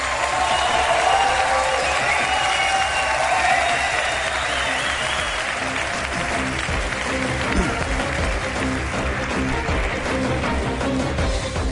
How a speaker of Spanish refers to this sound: Gracias a todos por haber venido. Un aplauso, que quiero sentirlo ahí.